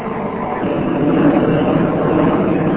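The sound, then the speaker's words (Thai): A steady, loud engine roar drones continuously with a deep rumbling low end, like an aircraft passing overhead. It holds at an even level throughout, with no voices. “เรือบินมาเดี๋ยวก่อน”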